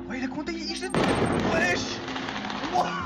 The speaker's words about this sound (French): Des feux d'artifice, des tirs de mortier, des voitures brûlées.